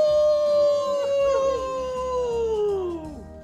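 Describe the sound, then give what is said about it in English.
A person lets out a long, loud howl imitating a dog or wolf, holding a steady pitch and then sliding downward as it trails off over about three seconds. “They want us to howl.”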